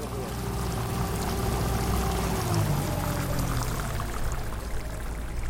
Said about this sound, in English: Find a place to hold on. I drive very slow. This is not a very long trip. It's an extremely short boat ride, but we don't want to go swimming on the way over there.